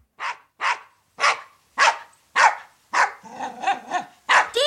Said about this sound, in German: Das ist doch ein schrecklicher Köter!